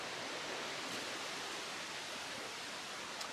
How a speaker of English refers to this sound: Ah, we have some wind.